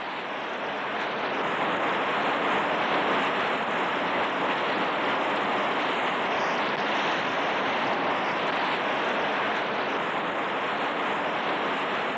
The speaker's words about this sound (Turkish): Rüzgar esiyor. Ağaçların dalları rüzgarda dans ederken kuşların yuvası ağaçlardan düşüyor ve rüzgarda sallanan ağaç dalları fırtına ile boğuşuyor.